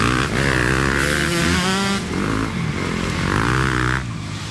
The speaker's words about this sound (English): A video had emerged of Meek Mill and friends riding dirt bikes through the lamp-lit streets of Manhattan, weaving between the city traffic. At one point, he popped a wheelie, riding on his back wheel with his front wheel in the air.